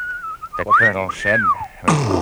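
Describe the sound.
A person whistles one long tone that rises, arcs and falls twice, with throaty vocal noises mixed in, ending in a short burst of breathy noise.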